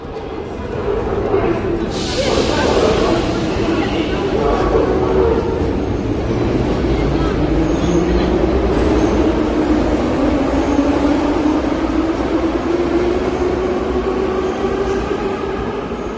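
A metro train runs through an underground station of the Kharkiv metro, a loud, steady roar of wheels and rails with an electric motor whine that rises and falls, echoing.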